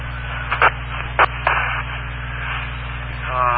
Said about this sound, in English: Buses, garbage trucks, give me a break.